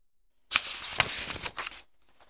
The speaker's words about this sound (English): He cut the plastic off the ends of the 2 wire tails.